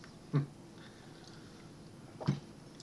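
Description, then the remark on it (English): Two short sipping sounds, about two seconds apart, like someone taking quick sips of a drink, with quiet in between and no talking. “So, hold on, I'll take a sip.”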